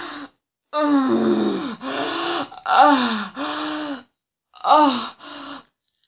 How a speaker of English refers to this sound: I always gasp because it feels way too intense. And I can't handle it.